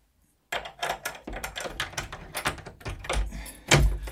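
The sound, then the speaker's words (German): A key rattles and scrapes in the lock of the only door to a museum's new exhibition room, followed by a series of sharp metallic clicks and clunks as the door is unlocked, ending with a louder thud. No one speaks. “Dann holen Sie ihn raus, Mann Gottes, und schließen Sie auf.”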